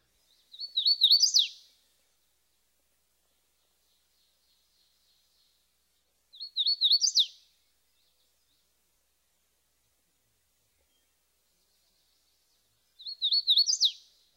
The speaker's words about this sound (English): Like the ovenbird, our next species, the hooded warbler, spends a lot of time on the ground. The hooded warbler's song is normally three phrases which sound like a wheat, wheat, wheatio.